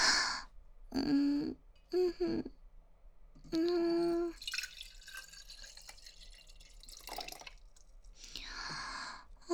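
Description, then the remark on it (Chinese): Water is poured into a cup to drink in a few short, gurgling bursts, then a longer splashing stream, fairly quiet, with no one talking. “喝水，我要喝水，给我倒水喝，我渴了，快一点。”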